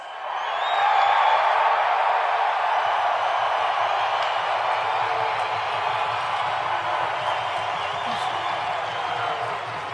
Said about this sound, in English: And I know what it's like for them and what they're feeling when they see you. And they see you cheer like that. You have no idea what that means to us.